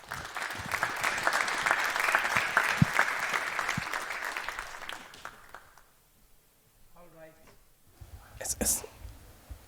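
An audience claps steadily for about five seconds, a dense crackle of many hands that fades out, followed by a short stretch of quiet with faint murmuring and a brief burst of noise at the end.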